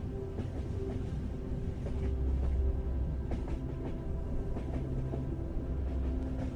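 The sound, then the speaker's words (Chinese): A train on the Qinghai-Tibet Railway rolls steadily deeper into the Tanggula Mountains. Its deep continuous rumble is broken by intermittent rhythmic clacks of wheels over rail joints. It stays loud throughout, with no voices. “火车接着向唐古拉山脉的更深处进发，虽然唐古拉山这一段是青藏铁路海拔最高的地方，但山脉并不像人们想象的那么险峻，可以说是很柔和。”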